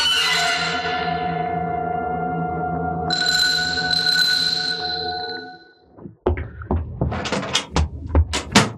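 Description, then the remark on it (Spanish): A door closes with a brief thud as a man disappears behind it, after a long, ringing, chime-like tone fades out, followed by a run of uneven knocks and bumps. “desaparece tras la puerta.”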